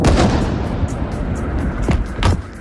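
impact, explosions

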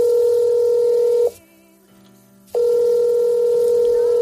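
signal or alarm, telephone ringing

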